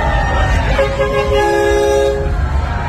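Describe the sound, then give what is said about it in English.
The horn of a Memphis police pride cruiser sounds a sustained, steady toot for over a second during a pride parade, amid a noisy outdoor crowd, with low rumbling traffic and general commotion around it. “Memphis, the police department had police cruisers, gay police cruisers, in the parade”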